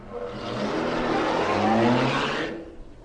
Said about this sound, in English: Now, he'll get into the car. He'll start the engine. And then he'll drive off.